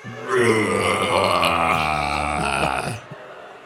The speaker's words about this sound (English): We want you to try a death growl. Loosen your vocal cords. Open up your throat. Find the bottom of your vocal range. And then go like this. All right, on the count of three, we're all going to growl together. One, two, three.